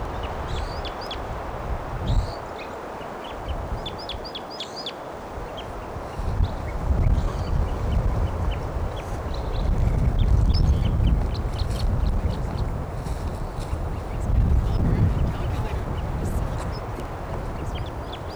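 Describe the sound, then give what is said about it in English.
Short, high-pitched wild bird calls repeat in quick bursts early on, then come and go faintly over a steady wash of noise and low rumbling. “Wild bird. Stop. Bird here.”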